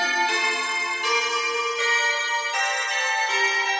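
An original Music Factory chime made as background music for broadcast and shops to mark the start of the day: a bright melody rings out alone, with bell-like tones changing pitch every second or so, each note sustaining with a soft shimmering decay at a steady moderate volume.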